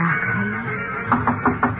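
knocking on a door

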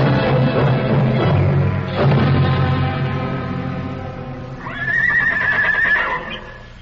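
horse neighing

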